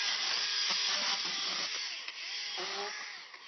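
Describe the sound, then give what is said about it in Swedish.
A forest owner's clearing saw runs steadily through young spruce on a storm-felled clearing left by storm Gudrun, its dense, hissing motor whine holding constant, with brief crackling and snapping as stems are cut, then easing slightly toward the end. “som röjer fram de unga granarna på ett stormhygge efter Gudrun.”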